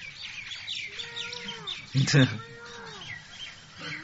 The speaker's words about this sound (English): No, oh my God, these are not parrots. I'm saved. These are other birds, not the parrots.